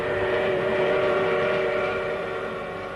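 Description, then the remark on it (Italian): A steady, sustained train whistle announces the train's imminent departure, sounding for several seconds as a loud harmonic tone held without a break and fading slightly at the end, with no voices. “Un fischio dall'annuncio dell'imminente partenza. Anche oggi il treno si metterà in marcia verso un nuovo viaggio.”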